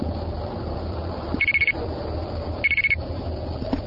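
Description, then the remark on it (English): Two quick bursts of five rapid high electronic beeps, the tones of two quarters dropped into a Quest payphone to pay for a local call, separated by about a second over a steady low line hum. “Did you want to pay with coins? Sure. Okay, just go ahead and put it in.”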